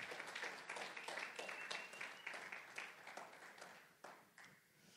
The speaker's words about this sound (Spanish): Si lo puedes creer, dale un fuerte aplauso a Cristo Jesús.